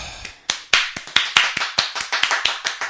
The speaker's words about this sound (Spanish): Un aplauso.